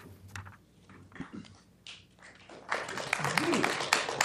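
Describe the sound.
A short stretch of quiet murmuring at a City Council meeting gives way to a sudden burst of audience clapping after a candidate's statement, a dense, crackling patter of many hands that grows loud and continues to the end, with a voice faintly underneath.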